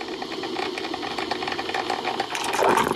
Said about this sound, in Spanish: És molt poc perceptible, però el que estàu sentint és el so del cafè sortint d'una cafetera italiana.